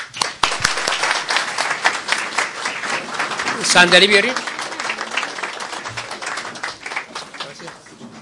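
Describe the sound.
An audience at a club gathering applauds steadily for several seconds for a member of the club's archery team, a dense crackle of many hands clapping, with a voice speaking briefly partway through.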